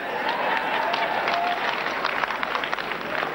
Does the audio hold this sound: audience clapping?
yes